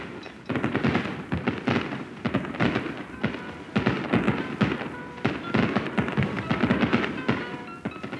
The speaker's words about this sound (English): Or ooh and ah as the fireworks blossom over the Sumida River and reflect their glory in the dark waters.